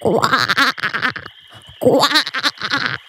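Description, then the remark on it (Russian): A toad croaks loudly in rough, rapid bursts, a cluster of croaks, a brief pause, then another run of croaking, with no talking. “Смотрит, а на листике лилии плывет одна жаба.”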